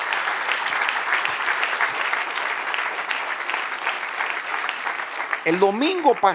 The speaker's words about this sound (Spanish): Porque, sí, dale aplauso al Señor. Amén.